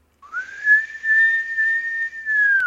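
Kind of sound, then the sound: human body sound, person attempting to whistle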